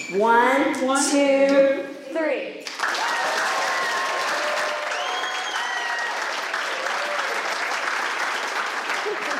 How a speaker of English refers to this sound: And with as much gusto as they can, they're just going to clap and show you how much God approves and loves you. I'm like, let's, one, two, three, and then they'll do it, okay?